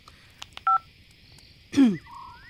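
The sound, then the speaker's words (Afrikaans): A mobile phone rings at night with short electronic beeps, a dual-tone blip, then a quick swooping chirp and rising tones. Moderately loud, with no voices. “Ma, dis ma se foon. Wie sal my hierdie tyd van die nacht...”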